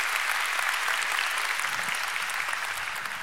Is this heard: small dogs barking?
no